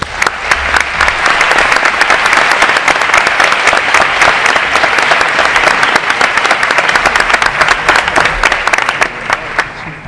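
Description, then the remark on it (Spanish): Loud, sustained audience applause at a celebration of the Día Grande of a denomination of origin, a dense wash of many hands clapping at once with sharp individual claps standing out throughout. “Y les pediremos para ellos de nuevo un fuerte aplauso.”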